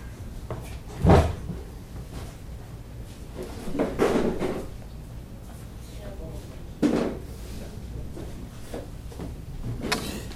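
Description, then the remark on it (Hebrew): Several short wooden knocks and scrapes, like a chair being shifted, come at scattered intervals, with faint background murmur between them. “אה יש כאן שולק, כיסא.”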